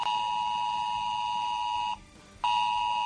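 A mobile phone emergency alert from a drill, sounding on phones in 8 municipalities of Guadalajara within 10 kilometres of the Trillo nuclear power plant, blares as a loud, steady, piercing electronic tone, cuts out for about half a second, then resumes at full strength. No voices are heard.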